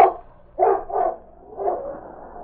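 A husky at the edge of a ravine barks four times in an uneven rhythm, fairly loud, the last bark stretching into a drawn-out whining tone. No one speaks.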